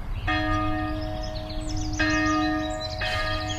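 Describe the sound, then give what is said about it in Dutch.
A church bell tolls three times at a steady pace, calling people to the afternoon church service, each strike ringing out with a rich, sustained hum over a low background rumble, with no voices present. “Het is elke keer weer die bel. Dan denk je, oh ja, moet weer. Dus gaan we weer naar de kerk.”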